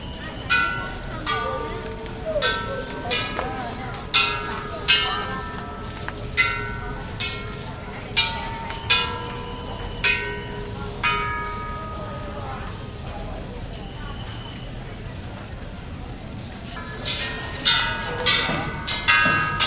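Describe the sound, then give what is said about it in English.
Small wishing bells and gongs at a Buddhist temple just outside Hong Kong are tapped by visitors again and again at an irregular pace, their bright metallic tones ringing and overlapping, while people murmur and move about in the background. “Just outside of Hong Kong, visitors walk the sacred grounds, tap wishing bells and gongs, and spin prayer wheels.”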